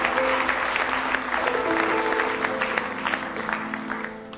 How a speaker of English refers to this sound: Give him another good hand clap of praise tonight.